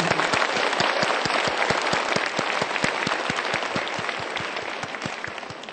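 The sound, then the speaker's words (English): An audience applauds the panel presenters after their presentations, many hands clapping steadily in a dense, sustained wash with sharp individual claps standing out, holding at a fairly even loudness throughout without anyone speaking. “Let's applause again.”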